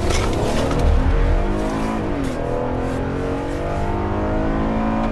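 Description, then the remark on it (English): Loud, continuous road traffic roars on a Wisconsin highway during a truck inspection stop, with engines droning and shifting pitch as vehicles rev and pass. No one speaks. “Inspectors patrolling Wisconsin's roads can also pull over trucks, and Johnson's doing that now.”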